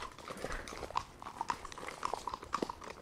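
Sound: horse walking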